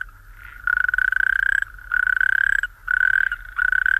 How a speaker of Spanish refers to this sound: De hecho, mira, vamos a pedir a Juanjo, el técnico, que suba el sonido del sapo corredor, que lo estamos escuchando.